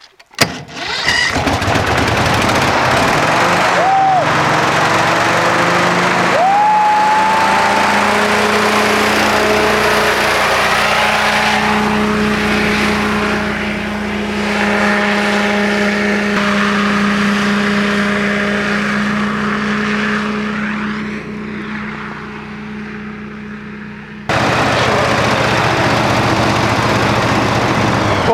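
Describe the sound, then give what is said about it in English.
A watercraft engine cranks and catches, then settles into a steady, loud droning run with harmonic whine, revving slightly up and down before a brief shift near the end. “It's a cross between riding a motorbike and a jet ski, I suppose, in similar ways, but it's something you've never done before.”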